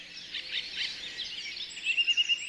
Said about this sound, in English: Ah, the dawn chorus. Delightful and familiar to all you early birds, and a novelty to all us night owls.